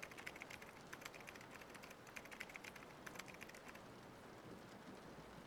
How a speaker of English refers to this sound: Oh, sorry, I'll let you finish whatever it is you're typing.